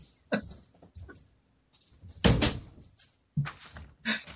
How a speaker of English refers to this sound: Can you close the door?